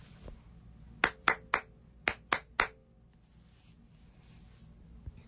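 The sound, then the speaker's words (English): Hands clap a short 'super secret' rhythm to be repeated in the game Secret Simon: two quick groups of three sharp claps, evenly spaced, with a brief pause between the groups. No voices, only faint background hiss. “I'm going to clap a super top secret, not so secret rhythm, and repeat after me.”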